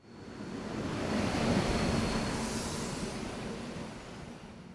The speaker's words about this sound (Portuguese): A Marina e o Ricardo estão na estação de comboios. O comboio para Sintra está a chegar.